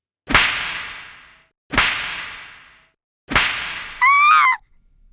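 Three sharp, loud whip strikes on a girl's buttocks land about a second and a half apart, each ringing briefly before fading. A short, high-pitched wavering cry follows the last one.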